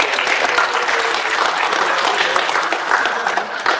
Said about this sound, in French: On peut applaudir.